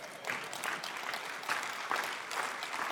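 A smattering of light applause from an audience, steady and fairly soft throughout the three seconds, with no voices heard over the clapping.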